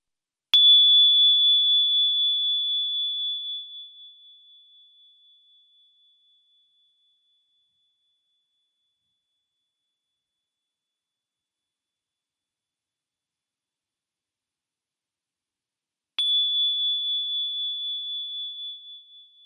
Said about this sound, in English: Did you hear how quiet the bell got before it was silent? Let's try 2 more times. Count how long you can hear the bell ringing before it's completely silent.